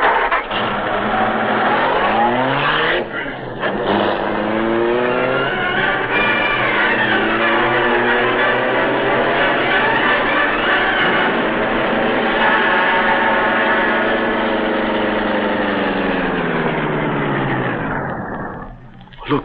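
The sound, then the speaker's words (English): A car engine runs loud, its pitch climbing and falling as it revs and pulls away from a driveway, holding steady for most of twenty seconds before cutting off, with no voices. “His own car must be parked somewhere along the street.”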